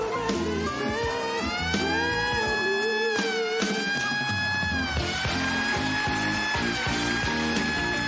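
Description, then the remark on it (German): A loud siren wails continuously, its pitch gliding up and down in long sweeps, with a dense layer of noise and rumble beneath it throughout; the siren is sounded to drown out a performer on stage. “Die werden nicht nur ausgebuht, sondern die werden dann von einer Sirene weggedröhnt.”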